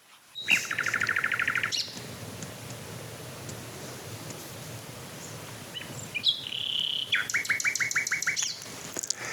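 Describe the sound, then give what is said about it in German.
A common nightingale sings in clear bursts: a rapid run of repeated notes, a pause over soft background hiss, then whistled phrases leading into another fast, rhythmic trill. “Ja, früher habe ich immer gesagt, dass die Nachtigall nicht so einen besonderen Gesang hat im Vergleich zu, aber wenn ich ehrlich bin, also welcher Vogel ist schon vergleichbar mit einem anderen Vogel?”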